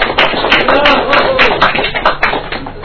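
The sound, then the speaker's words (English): An audience at a poetry reading claps steadily for a few seconds to welcome the next poet, a dense, even patter of many hands with murmured voices mixed in underneath. “Clap for a bit. Fill up the atmosphere”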